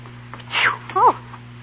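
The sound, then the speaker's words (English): A single sneeze caused by dust, a breathy rushing intake followed by a sharp voiced burst, moderately loud over a faint steady background hum. “God bless you. Thank you. It's the dust up here.”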